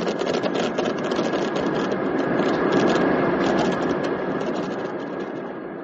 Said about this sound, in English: Have you noticed that the engines sound quieter?